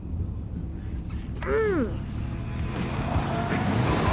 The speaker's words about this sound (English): I think I hear some. Greg shushes Rowley as a truck approaches.